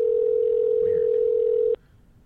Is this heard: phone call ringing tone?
yes